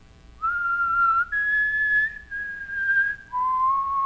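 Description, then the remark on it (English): A person whistles a clear four-note tune, each note held steadily for nearly a second, rising then stepping back down, with no talking. “And then before turning to go, she turns to the ever-present cameras and she kisses her middle three fingers, and she raises them high in the air and whistles the mockingjay song.”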